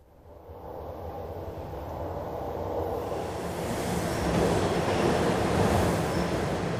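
subway train in station

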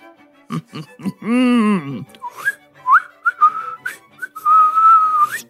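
whistling a tune

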